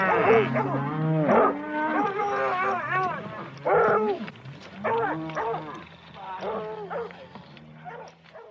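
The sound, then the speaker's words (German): Cattle moo loudly and repeatedly in overlapping, drawn-out calls, a restless, agitated chorus, with what sounds like a dog barking mixed in. “Effen und Muhn zu einem kleinen Tohuwabohu mischten.”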